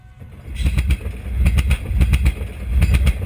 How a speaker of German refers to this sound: Der Pelopepa fährt ein, der Zug der Gesundheit oder Zug der Hoffnung, wie er auch gerne in Südafrika genannt wird. In Tzaneen, einer Kleinstadt im ländlichen Norden Südafrikas, warten schon hunderte Menschen am Bahnsteig.